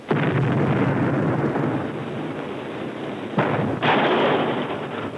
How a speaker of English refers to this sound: just seen a swept wing 58 Dodge fired from a cannon. One of the most punishing stunts ever performed by an automobile.